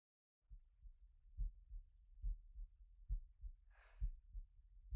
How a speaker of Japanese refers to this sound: もうかなり落ち着いてきたはずなのに、なんかこうしてるとまた心臓の音が聞こえてきそう。